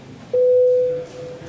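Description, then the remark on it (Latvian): A single steady electronic tone sounds loudly for under a second, a clean sustained beep over faint background murmur, with no speech: the voting bell in the Latvian parliament (Saeima), rung before a vote on an amendment. “Nē, lūdzu zvanu.”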